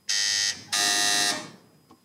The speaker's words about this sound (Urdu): جی دونوں کی بزر بج رہی ہے